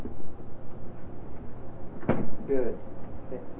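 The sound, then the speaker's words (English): A refrigerator door swings shut with a single dull thump partway through, followed by a short burst of a voice over a low, steady background hum. “You know, time to close the refrigerator, okay? Time to close the refrigerator.”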